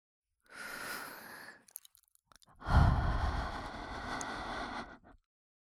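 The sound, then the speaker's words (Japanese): Two long, breathy exhalations of warm breath blown softly at the ear into a microphone, the first airy and hissing, the second fuller and rumbling with low wind noise, separated by a brief pause with faint clicks. “生温かい吐息をお耳に当てられて、ピクって跳ねちゃいましたね。”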